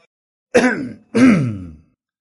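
Two short, light throaty coughs in quick succession, fairly soft, each lasting about half a second with a brief pause between, no talking.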